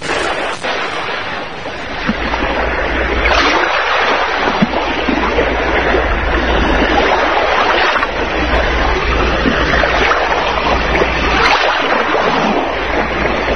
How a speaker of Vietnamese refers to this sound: Bóng tối mông lung, tiếng sóng vỗ ào ào, tiếng gió gào